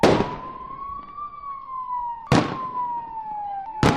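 Three sharp, loud gunshots ring out at uneven intervals during a police assault drill, each with a brief echoing tail, while a steady siren wails continuously in the background.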